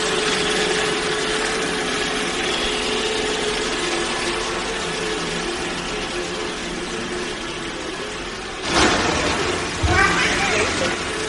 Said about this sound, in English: Okay, you got to turn the Roomba off. You got to turn off the Roomba.